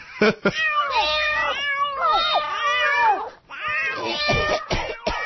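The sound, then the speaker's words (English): Several cats meow over and over, their loud cries overlapping in a nearly continuous chorus of rising and falling wails, with no talking. “Well, I've become that crazy cat lady.”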